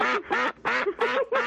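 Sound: duck quacking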